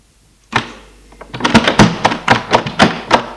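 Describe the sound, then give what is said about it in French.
A house's front door opens with a solid clunk after the doorbell is rung, followed by a rapid series of sharp knocking clatters, fairly loud, with no voices. “Elle s'ouvre.”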